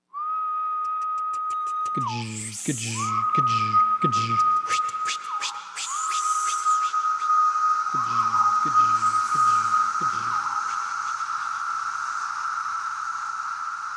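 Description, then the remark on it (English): A dense chorus of three different cicada species: a steady, high whining drone runs throughout, joined by sharp clicking wing flicks and two stretches of loud, rhythmic pulsing calls, with no voices. “But the bottom line is, that notorious noise is this jumble of calls and wing flicks from three different species.”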